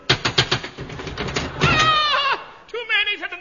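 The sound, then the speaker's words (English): A quick run of sharp, evenly spaced knocks on a cottage door, about eight in all, then a loud wavering bleat-like voice that warbles briefly, pauses, and comes back. “I'll knock.”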